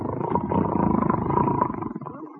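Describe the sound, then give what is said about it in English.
A loud, rasping snore drawn out in one long, rumbling breath for a couple of seconds, a growly vibrating drone with no talking, performed by a voice imitating snoring while sitting on the edge of a bed, not yet asleep. “I ain't asleep, but I am snoring already.”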